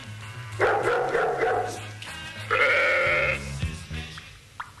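Two long, wavering sheep bleats, each lasting about a second, sound fairly loud, with dog-like yelps and a low steady hum underneath.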